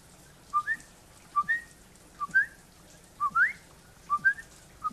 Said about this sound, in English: Can you whistle? I'll try. I like to whistle when it's raining. For some reason, I just like to do that.